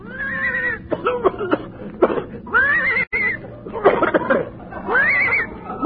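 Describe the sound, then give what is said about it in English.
A horse, hooked up by rope to tow a car toward Palm Springs, coughs hoarsely in a run of harsh, raspy bursts mixed with strained, wheezy whinny-like cries, loud, with no talking. “I think the horse is hoarse.”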